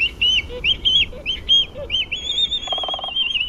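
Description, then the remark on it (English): Black-footed albatross calls: a run of high, warbling, whistled cries repeating in quick bursts, with a brief buzzy rattle near the end, heard clearly over a low rumbling background. “Black-footed albatrosses are masters of the high seas and soar through the air, but their fate is threatened by trouble on land.”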